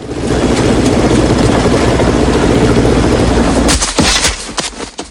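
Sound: helicopter landing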